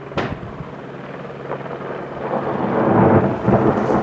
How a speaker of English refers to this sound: Kind of see that one go, a little flash. But yeah, it creates quite a nice explosion, pretty good punch to the snowpack.